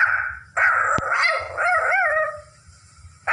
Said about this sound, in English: All right, you silly dog. Since it's Christmas Eve, I think we should prepare for Christmas tomorrow. What do you think?